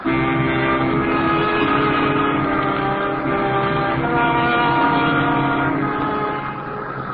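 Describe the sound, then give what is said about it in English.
A boat engine chugs steadily and continuously, a loud, even drone with a rich rumbling tone that barely changes, easing off slightly near the end. No voices. “For a half hour, there's no sound but the steady chugging of the engine.”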